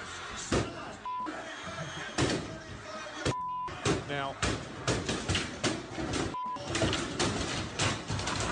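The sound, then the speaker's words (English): A man kicks and bangs hard against a door, busting a hole in it, making a series of loud, irregular thuds and crashes over several seconds, with people talking in between the blows. “That's literally him busting down some kind of door, kicking the door, finding that he was able to create a hole in it”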